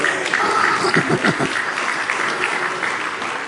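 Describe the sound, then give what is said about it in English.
A crowd applauds steadily, many hands clapping in a dense, even patter that swells briefly near the start and then carries on at a consistent level, with faint voices mixed in. “Oh, I can tell every one of you that ain't had one by the way you clapped your hands.”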